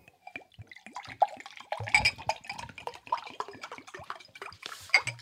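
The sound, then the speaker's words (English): Water drips and splashes in an uneven patter, with brief pouring and light clinks like liquid hitting dishes or glass, moderately loud, no voices. “All right, that water sounded nice.”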